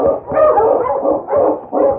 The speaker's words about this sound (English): He had stopped his dog team when, suddenly, Spot began to bark and pull on the leash that held him.